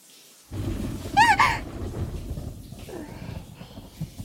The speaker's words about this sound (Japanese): 雷近くなってる。怖いよ。